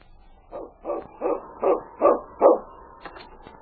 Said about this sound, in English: Preston's going to keep that dog out of here from now on.